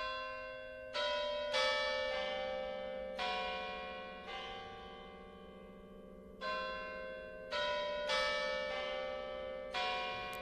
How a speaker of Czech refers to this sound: Celkem je tu zavěšeno 8 zvonů. Zdejší zvonkohra zahraje 6x denně, 3 minuty před odbytím celé hodiny, refrém svatohorského zdrávasu.